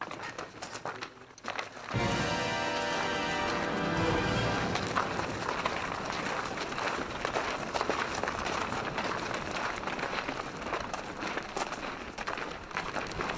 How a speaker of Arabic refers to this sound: ما الذي يجعلك مستيقظا إلى هذه الساعة من الليل؟ خطوات الجند تلك التي لم تهدأ.